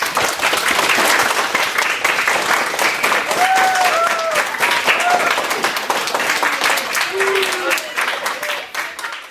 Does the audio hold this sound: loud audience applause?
yes